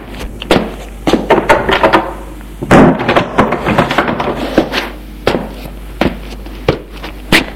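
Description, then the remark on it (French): A door being shut: a scatter of sharp clicks and knocks surrounds one heavier, resonant thud midway, followed by more light taps and rattles, with no voices. “Émile entre, il ferme la porte.”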